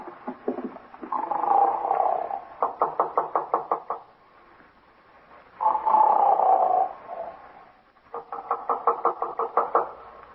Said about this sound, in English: Guy's snoring up a storm at 9.